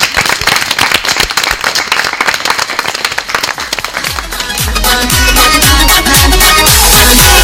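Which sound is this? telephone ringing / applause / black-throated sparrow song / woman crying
applause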